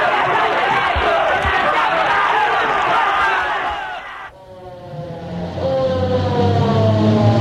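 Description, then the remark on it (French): A crowd murmurs loudly, then a police car engine starts to rev and pulls away with a man seated between two officers, heading to the police station, its pitch climbing as it accelerates while the crowd noise continues faintly. “On le pousse dans une voiture de police”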